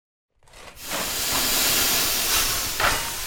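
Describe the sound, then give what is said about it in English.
A steam locomotive engine being steamed up at 4 a.m. hisses loudly and steadily, a broad rushing blast of escaping steam that starts abruptly and holds for a few seconds with slight surges, with no voices. “Just get yourself dressed and get the engine steamed.”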